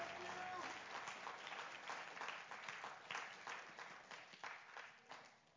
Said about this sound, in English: One more time, would you clap your hands unto the Lord, and you may be seated.